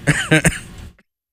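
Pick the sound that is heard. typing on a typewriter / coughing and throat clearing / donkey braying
coughing and throat clearing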